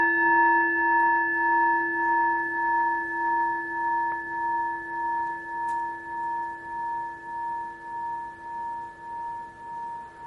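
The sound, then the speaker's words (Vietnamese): A Buddhist temple bell rings out in a long, sustained hum, its steady tones slowly pulsing and wavering as the resonance lingers, clear with no voices. “nguyện tiếng chuông này vang pháp giới.”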